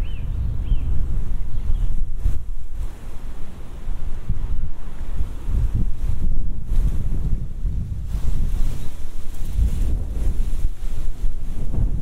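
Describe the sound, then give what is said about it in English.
Strong wind buffets the microphone outdoors in a park, a constant low rumbling roar with gusty surges and dips throughout, loud, with no voices. “Oh, it's so windy, gosh.”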